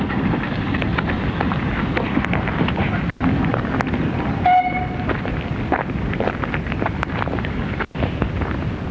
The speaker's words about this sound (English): Off goes the train again.